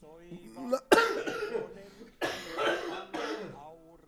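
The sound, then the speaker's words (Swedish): A few harsh, loud coughs coming in quick bursts with brief pauses between them, preceded by a short vocal sound. “Hallå, hostan.”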